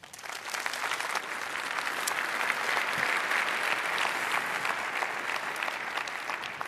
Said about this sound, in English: Please welcome her with a lot of applause.